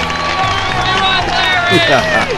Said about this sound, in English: Is there no sweeter sound than that of your own name? Buried in cheers and applause? There is not.